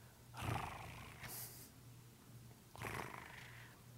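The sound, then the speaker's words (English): A lion gives two deep, rasping growl-roars about two seconds apart, each a rumbling burst with a breathy edge, with no one speaking. “The lion probably wouldn't have made noise to give himself away.”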